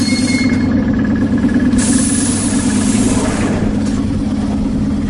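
Steady, loud rumble of an electric commuter train, a deep droning hum with a faint high whine on top, holding evenly throughout with no voices.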